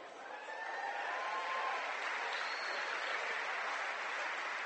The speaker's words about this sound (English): At this time, let's give the 2017 Minster Wildcat Division 7 state football champions one more round of applause. Congratulations, team.